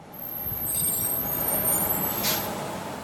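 A large bus engine rumbles steadily as the bus arrives at a bus stop by the street, then a sharp hiss of air brakes bursts out briefly near the end as it comes to a stop.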